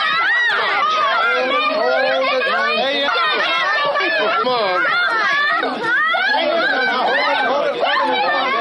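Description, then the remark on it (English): A loud crowd at a race hoots and hollers nonstop, many voices overlapping in shrill, rising yells and babble with no clear words, a steady wall of excited noise from start to finish. “So here's all the hooting and hollering.”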